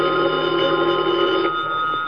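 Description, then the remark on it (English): A telephone in the lobby of a rooming house rings steadily and fairly loudly at about 11:15 at night, a continuous metallic trill that fills the whole moment with no voices over it, and the sound is slightly thin and band-limited like an old recording. “Then, at about 11:15 that night, the phone in the lobby started ringing.”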